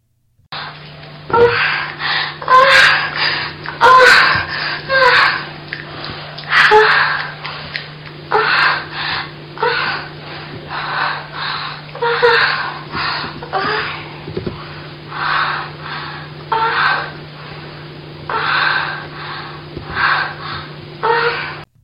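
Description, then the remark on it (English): A woman moans during sex, repeated breathy, gasping cries in a steady rhythm that rise and fall for about twenty seconds, with a constant low hum underneath. “Russ, name that orgasm.”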